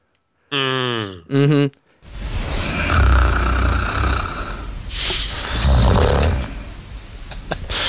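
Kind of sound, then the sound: vocal imitation, person imitating snoring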